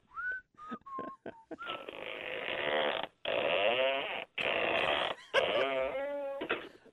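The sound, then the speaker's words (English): A single French door, opening on one side, is opened and recorded on a phone, giving a loud squeal: a few short whistly chirps, then several long groaning creaks with wavering pitch, separated by brief pauses, and no voices. “Can you take the phone over there and open it for us?”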